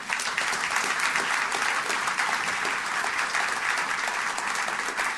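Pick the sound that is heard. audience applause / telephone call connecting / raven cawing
audience applause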